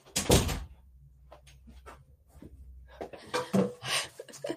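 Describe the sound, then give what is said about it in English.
A door is pulled open with a sharp thunk and rattle to let a 165-pound Great Dane out of a home office, followed by quieter shuffling and clicks, then another burst of louder knocking and latch noise as it swings. “Live at home, letting the dog out.”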